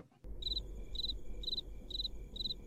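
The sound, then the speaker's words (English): A crickets sound effect: crickets chirp in a steady, evenly spaced rhythm, five high trilling bursts over a low, continuous background rumble, with no one speaking. “What do you hear from him? Crickets.”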